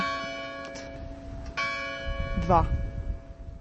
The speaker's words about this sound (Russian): Ну вот часы бьют 2 часа дня.